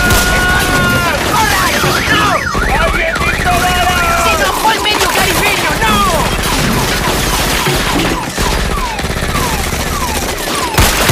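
Rapid bursts of gunfire crackle continuously through a loud, chaotic scene, mixed with warbling high-pitched tones and shouting voices, with no pause for the whole stretch.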